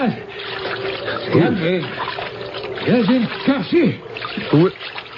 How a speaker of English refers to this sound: There was someone in the water swimming towards us.